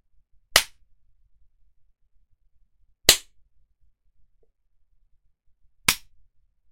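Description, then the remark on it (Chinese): Three sharp whip lashes crack one at a time, spaced about three seconds apart, each a loud, snapping strike followed by near silence, part of twenty lashes given as punishment. “那小狗今天还要挨20下鞭子呢。”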